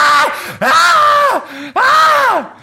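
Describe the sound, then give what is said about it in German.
A person imitates screeching bats with three loud, drawn-out shrill cries, each sliding downward in pitch at the end, separated by brief pauses. “Ich glaube, es ist ein ongoing Schreien bei denen.”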